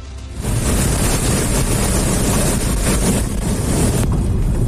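police car chase

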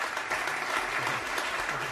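applause

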